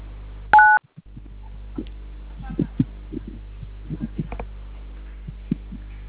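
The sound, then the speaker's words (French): A single short telephone keypad tone beeps loudly near the start, a dual-pitched DTMF press as a caller keys a code and selects option 3 in a phone menu, followed by low hum and faint scattered thumps and clicks on the line. “Vous composez étoile 112 dièse. Ok, vous choisissez l'option 3.”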